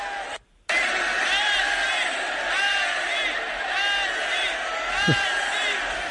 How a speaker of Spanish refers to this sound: los gritos de Messi, Messi, aquí están.